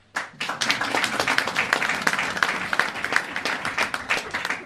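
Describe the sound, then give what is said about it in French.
An audience breaks into sustained applause to answer a question put to them, many hands clapping densely and steadily for several seconds, loud, with a faint murmur of voices mixed in. “Donc par applaudissement, si ça vous concerne, vous applaudissez.”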